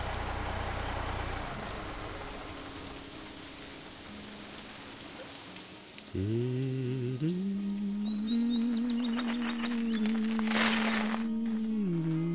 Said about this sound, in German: Das regnet doch.